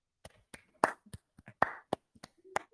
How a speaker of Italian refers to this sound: Grandi applausi per il vero ligure. Bravo, bravo.